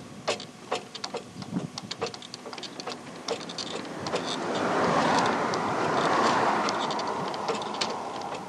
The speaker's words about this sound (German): Ein kleiner Bach, über den eine Brücke geht